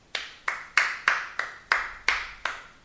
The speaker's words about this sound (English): All right, so I want you to listen in with your expert ear and tell me whether this clapping is good clapping or bad clapping. Sincere or not.